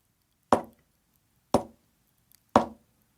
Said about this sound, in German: klopft dreimal leise.